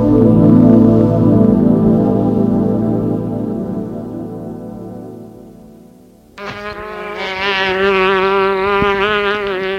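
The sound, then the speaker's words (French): A housefly buzzes continuously, its drone wavering in pitch as it flies around, fading slightly before a sudden louder, sharper burst of buzzing. “Les oreilles sont toujours à la recherche du bruit de la mouche.”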